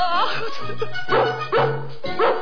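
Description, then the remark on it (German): A newborn puppy yelps and whimpers in a string of short, high-pitched cries, roughly four bursts coming every half second or so with a faint low hum underneath. “Die Jungen sind da! Raus, das niedliche Hundchen!”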